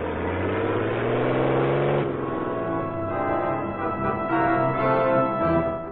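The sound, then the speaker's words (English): A heavy armored truck engine rumbles and revs up as the truck pulls away from the rear door of a large bank in Miami, its low droning hum holding steady for several seconds with no voices. “an armored truck drove away from the rear door of a large bank in Miami.”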